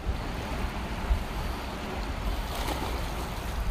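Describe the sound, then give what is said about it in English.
A Labrador dog splashing about in water outdoors, a steady rushing wash of water and wind with a brief sharper splash partway through, fairly loud, with no one talking. “What is it with Labradors and water?”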